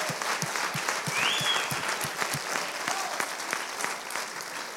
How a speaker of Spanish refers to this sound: ¿Le podemos dar un aplauso? Let's go.